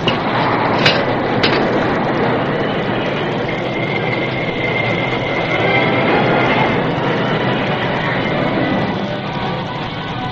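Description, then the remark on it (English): An old work engine pulling a work train rumbles and grinds along the rails as its brakes take hold, with a couple of sharp clanks early on and a steady high-pitched squeal rising through the middle. “As the old work engine squealed to a stop, the Lone Ranger glanced out the cab window at the curving sweep of track beyond.”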